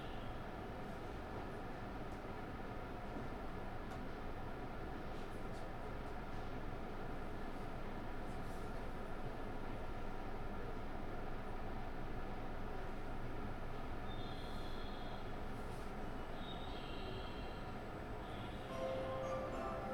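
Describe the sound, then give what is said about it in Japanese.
A local train bound for Moriya departs the station, next stop Kashiwanoha Campus; its steady, loud rumble fills the whole stretch, with faint high whines and squeals creeping in toward the end as it gets moving. No one speaks. “To all passengers, this train will depart soon.”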